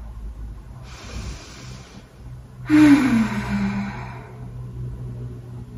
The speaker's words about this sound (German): Genau, lass uns gut mal zusammen ein bisschen atmen.